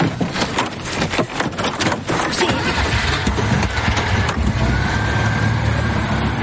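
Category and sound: vehicle, car engine starting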